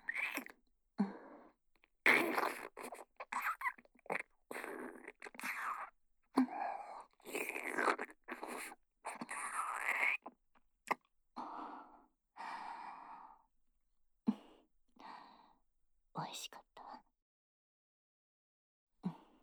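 Intimate chewing and wet mouth noises, irregular crunches and smacks mixed with soft breaths and sighs, with no talking, as one person feeds another mouth-to-mouth, trailing off into quiet near the end.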